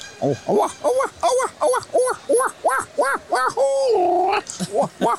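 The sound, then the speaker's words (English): A person imitates a screech owl call, voicing a quick, bouncing series of about a dozen hooting notes, then a drawn-out wavering tone and a few more short hoots, fairly loud. “Okay, that's a screech owl.”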